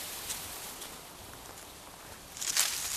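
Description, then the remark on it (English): A soft, continuous rustling of dry leaves on the ground as a snake slithers quickly off deeper into the bush, growing into a brief louder crackle near the end. No voices. “That rustling sounds like something moving in the leaves on the ground.”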